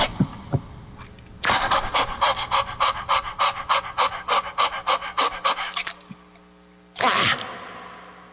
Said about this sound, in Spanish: Afortunadamente, luego de husmear unos segundos, el perro se marchó.